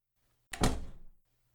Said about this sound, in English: I'll close the door behind you.